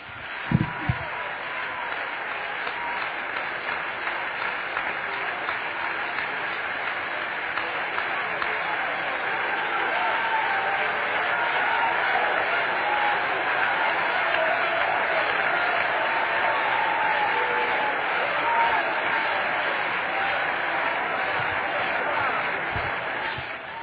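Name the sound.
audience clapping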